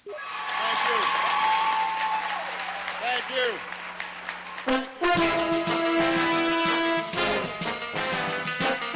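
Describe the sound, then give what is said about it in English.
A large indoor overflow crowd of CIA spies and analysts at Langley applauds steadily as President Obama meets them, while voices cheer and whoop over the clapping; the shouting swells louder and more sustained in the second half, with the applause continuing throughout. “His cover blown, the spies go wild.”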